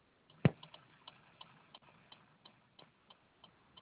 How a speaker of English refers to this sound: And then when I got back in my car, it just wouldn't start. And then it started ticking on the dashboard.